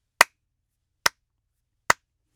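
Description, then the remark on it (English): Three sharp hand claps at a steady, unhurried pace, each a crisp, bright crack that dies away at once, separated by near silence in a quiet studio. No one speaks. “Here's a couple of claps for you as well.”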